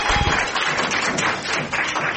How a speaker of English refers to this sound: Everybody, let's give her a round of applause because you know what? That's really tough.